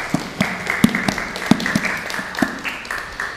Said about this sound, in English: And thank you for leading us in that applause.